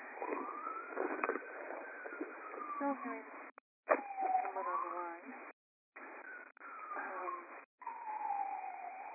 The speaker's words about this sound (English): Okay. Someone on the line. Siren or something. So if you want to go ahead and move that. Okay, there we go. Sounds quieter now.